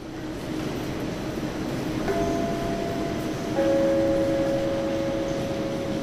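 Steady roar of Germany's second-largest long-distance railway station, with nearly 450,000 people passing through, and a train hum that rises partway through, adding sustained whining tones over the dense background noise. No voices stand out.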